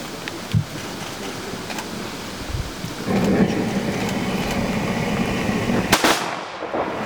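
Ceremonial rifle salute volleys by a salute group ring out outdoors at the opening of a war memorial complex, about three sharp cracks spaced a couple of seconds apart, over a steady background of wind-like noise.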